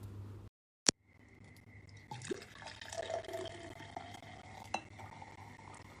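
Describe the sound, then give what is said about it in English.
A single sharp clink, then a steady, splashy stream of liquid pouring into a glass for about four seconds, ending with another small clink. A low hum runs underneath. “I should have poured this before.”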